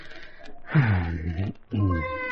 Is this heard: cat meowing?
yes